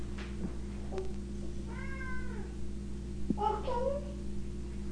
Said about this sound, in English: No, don't give her food. She's asking for food. That's what keeps her meowing. No, I'm not going to give her food.